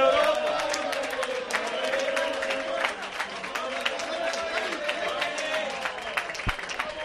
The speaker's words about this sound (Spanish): entra en el restaurante a donde va a cenar, recibe una ovación de todos los presentes